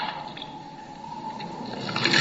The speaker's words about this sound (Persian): صدای ریخته شدن خون